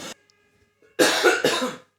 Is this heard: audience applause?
no